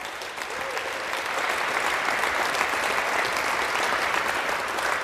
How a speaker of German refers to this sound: Ich bitte euch noch einmal um einen herzlichen Applaus